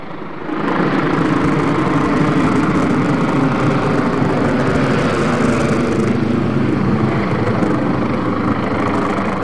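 A police helicopter drones overhead at night, sweeping a searchlight up and down the streets, in a steady, loud, continuous roar with a low throbbing hum, holding constant for the whole stretch with no voices.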